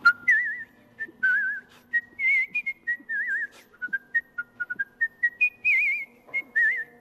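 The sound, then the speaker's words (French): A person whistles a film tune alone with virtuoso skill, producing clear sustained tones with wavering vibrato and quick ornamented runs, fairly loud with short breaths between phrases. “Le sifflet, en tant qu'instrument, ça interpelle les gens.”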